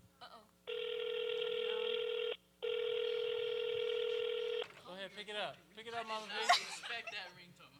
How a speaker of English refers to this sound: Respect that ringtone. Pick it up.